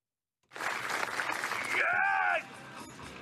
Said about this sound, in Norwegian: Og så klapper de, er det klapping før der? Er det applaus det var, ja?